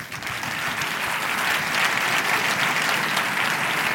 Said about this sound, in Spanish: Y vamos a recibir con un fuerte abrazo, y con un fuerte aplauso, y abrazo si queréis también, evidente, se lo merecen, a Wayne Griffiths, CEO de Cupra.